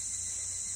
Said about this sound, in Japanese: 陽介は走っていた。早朝の道に人の気配はなく、セミの声が聞こえ始めている。